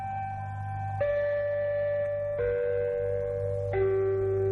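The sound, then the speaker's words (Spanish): Identification chimes of Mexican radio station XEW: four sustained, bell-like tones, each ringing into the next, stepping mostly downward in pitch over a steady low hum, with no voices. “En la cabina de locutores sonaron por vez primera en forma oficial aquellas campanas W que llegarían a ser tan familiares en México y más allá de sus fronteras.”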